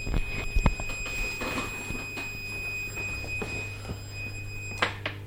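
A personal emergency alarm, set off by mistake, sounds a steady, piercing high-pitched tone that runs unbroken throughout, with a few soft bumps and a brief rustle in the background and no one talking.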